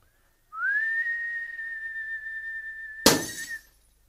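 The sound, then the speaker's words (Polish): A steady, sustained whistle holds one high pitch for about three seconds, meant to make a thin wire glow; then a sudden sharp snap as the wire breaks, with a brief crackling tail as the whistle fades out. “Teraz ja gwizdem rozżarzę ten drucik.”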